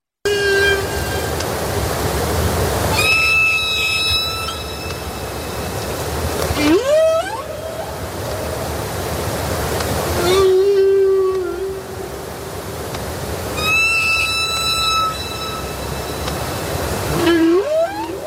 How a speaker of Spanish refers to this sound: ¿Entendieron? Bueno, yo tengo un doctorado en canto ballenil, así que les puedo traducir.